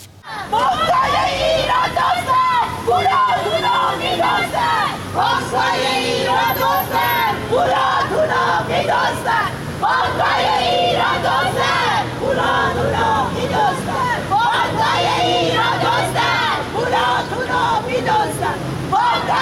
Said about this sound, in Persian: اما باز هم ویدیویی داریم از تجمع اعتراضی مالباختگان مؤسسه مالی کاسپیان.